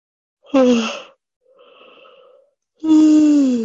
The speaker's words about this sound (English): Yawning counts as breathing too.